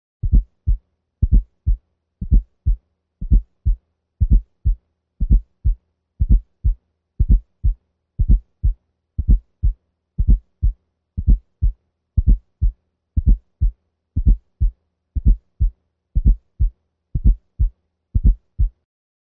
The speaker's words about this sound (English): We will now listen to S4 at the left apex using the bell of the stethoscope. We will listen first at 60 beats per minute. The cadence of the sounds is 4, 1, 2.